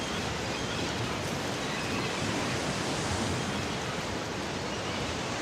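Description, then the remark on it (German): A steady, dense rush of surf washing onto a shore, continuous, with no distinct breaks between waves and no voices. “Ich schaue aufs Wasser.”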